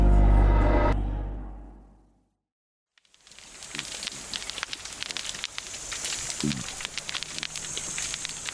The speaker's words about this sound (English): This is the crackle of pistol shrimp and the occasional grunt of cod. It's just one of many strange, intriguing, and maybe a little bit creepy sounds that resonate from the deep